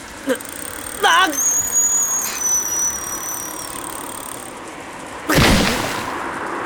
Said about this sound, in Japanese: 車？まずい、避けなきゃ。